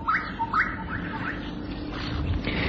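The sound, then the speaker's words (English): A bushshrike calls from a thorn tree in a series of sharp, rising whistled notes, repeated about four times in quick succession over a steady low background hum. “The gorgeous bush strike calls from a thorn tree.”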